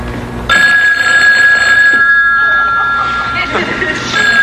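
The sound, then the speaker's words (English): An old-style telephone bell starts abruptly and rings continuously for several seconds, a bright, shrill metallic jangle over a low murmur of voices and background noise. “Go ahead, answer it.”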